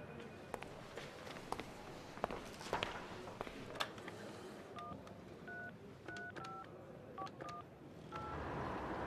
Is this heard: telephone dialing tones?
yes